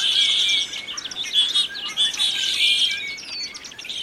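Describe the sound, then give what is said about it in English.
A flock of about 50 starlings, startled into the air by a squirrel leaping into their tree, chattering together in a dense, continuous wash of high chirps, whistles and clicks, overlapping without pause and fairly loud throughout, with no voices. “An orchestra of starlings rehearsing for the spring breeding season.”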